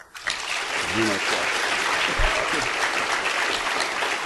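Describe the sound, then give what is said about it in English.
A live audience applauds to vote that the xenograft is the fiction, a dense crackle of many hands clapping at once, with a few brief voices rising underneath near the start. “If you think that the xenograft is the fiction, applaud.”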